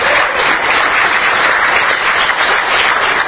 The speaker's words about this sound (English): Please give the head table a round of applause.